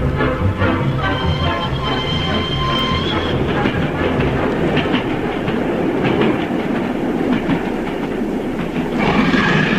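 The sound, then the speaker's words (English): A train rumbles steadily along the rails with a rhythmic clickety-clack of wheels, a loud, continuous roar broken early on by faint high metallic squeals. “I didn't know you were on the train.”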